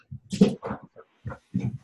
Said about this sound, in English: Well, my dog is going crazy. But yeah, go ahead.